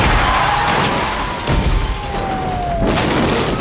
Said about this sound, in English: Blinded by desperation, the suspect doesn't see the danger until it's too late. The innocent motorist slams into the already damaged pickup.